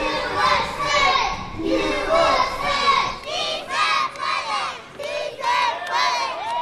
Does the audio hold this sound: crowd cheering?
yes